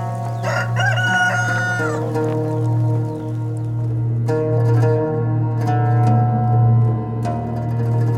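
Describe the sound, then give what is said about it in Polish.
A rooster crows loudly, a long strained call near the start, over a steady low hum with faint scattered ticks and clucks in the background. “Piotr jednak znowu zaprzeczył i zaraz kogut zapiał.”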